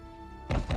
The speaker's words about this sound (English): Let me in. Don't bang it on my door like that.